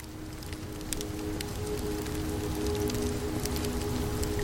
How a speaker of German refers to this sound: Seine Wärme umhüllt dich wie ein schützender Mantel, während das Knistern der Flammen wie ein leises Flüstern zu dir spricht.